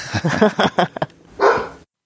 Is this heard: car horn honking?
no